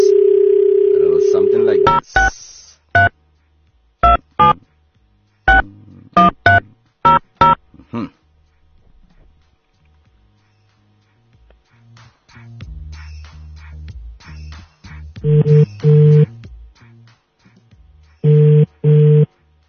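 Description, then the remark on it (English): A phone line hums with a steady dial tone, a quick run of keypad beeps follows, then the ringing tone of an outgoing call placed from Radio Veritas buzzes twice in evenly spaced bursts, clear. “Answer your phone, Father.”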